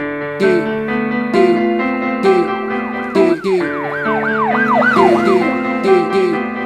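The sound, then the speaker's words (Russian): Emergency vehicle sirens wail through city streets in rapid rising-and-falling sweeps, loud, layered over steady musical tones and punchy beats. “Улицы жмурятся от мигалок под вопль сирен.”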